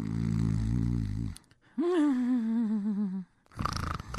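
In The Bickersons, husband John snores loudly and raucously at 3 o'clock in the morning, a rasping low inhale followed by a wavering, whistling tone, then another harsh breath begins; alone with no talking.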